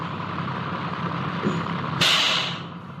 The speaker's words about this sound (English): Finally, the bus is here.